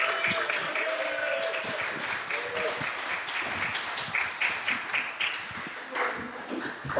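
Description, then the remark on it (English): A crowd at a live show applauds steadily as two military historians are welcomed to the stage, a dense wash of clapping that holds at a fairly even level for several seconds, with a few brief tonal pings and some murmured voices mixed in. “Right, ladies and gentlemen, big round of applause and welcome to the stage”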